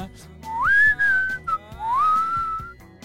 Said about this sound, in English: Yeah. That's the part that you were whistling is the... Yeah, just that.